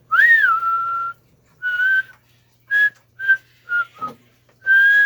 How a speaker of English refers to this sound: Our theme music sounds a little different today because you are the ones whistling it. I'm so excited to hear all of your wonderful whistles.